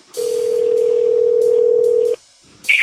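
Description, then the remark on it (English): A steady, unbroken telephone dial tone of a recorded phone call, placed by someone posing as an undercover customer to the number on an ad, hums loudly for about two seconds over faint line hiss, then cuts off abruptly. After a brief silence, a short burst of another sound starts. “And at that time, I posed as an undercover customer and placed some recorded phone calls to the phone number on that particular ad.”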